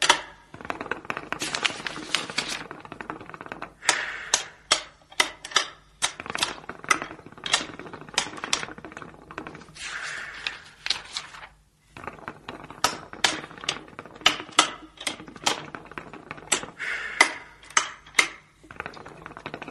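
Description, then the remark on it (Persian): Rapid, irregular wooden clicks of abacus beads flicked by a merchant doing his accounts in his shop at the Chaharsu bazaar, seated on a bench covered with a Turkmen rug, coming in quick bursts separated by brief pauses, with no talking. “میرزا رضا توی حجره روی نیمکتی که قالیچه ترکمنی زیبایی روی اون انداخته بودند نشسته بود و داشت با چرتکه حساب و کتابش رو میرسید.”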